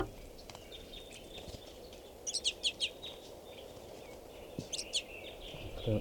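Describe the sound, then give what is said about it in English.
A flock of about 40 crossbills, at least 20 of them in the tree, calling: bursts of sharp, high chip notes in quick clusters, a flurry midway and another near the end, over a steady low rumble of background noise. “And there are at least 20 more birds in the tree. So there's a good 40 crossbills right here.”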